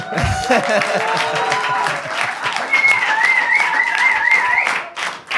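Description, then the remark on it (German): A crowd claps steadily and loudly for several seconds, with cheers and a few high whistles rising above the dense applause before it tapers off. “Ich habe jetzt kurz gewartet, ob irgendwie Applaus kommt oder irgend sowas, aber natürlich gar nichts, ne?”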